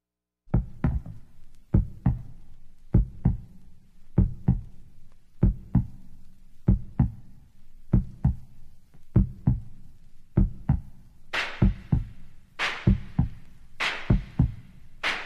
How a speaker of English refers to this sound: Yes, the heartbeat. Mine and yours pumping together on a Friday afternoon. Once you got that heartbeat pumping, you know you're live.